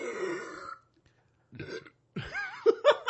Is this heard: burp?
yes